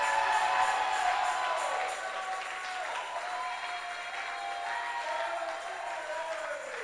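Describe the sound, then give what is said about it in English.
An audience claps steadily and loudly for several seconds, a dense continuous wash of applause with faint crowd voices mixed in. “Oh, I say clap again.”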